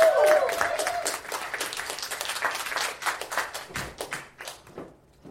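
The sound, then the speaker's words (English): A live show audience bursts into loud applause and cheering as a performer is introduced to present a bedtime story, thinning out over several seconds into scattered individual claps before fading away. “put your hands together and make some noise”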